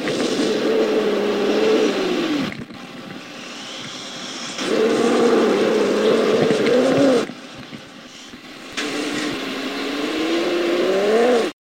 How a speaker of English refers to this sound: The king cobra's hiss sounds more like a growl. It has low-frequency resonance chambers in its windpipe that enhance and deepen the sound of its hiss. Here's a clip of one, and I would not want to hear this coming from a snake the length of a truck.